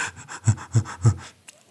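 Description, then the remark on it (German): A person pants in quick, hectic, excited breaths, a rapid run of about eight short huffs, a few pushed harder than the rest, then stopping abruptly. “Atmen Sie mal alle ganz hektisch, aufgeregt und Sie werden merken, hupsala.”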